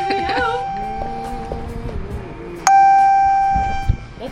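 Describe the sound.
A phone alert sounds suddenly, a loud, bright electronic tone that holds for about a second, after muffled voices and softer tonal chirps earlier on.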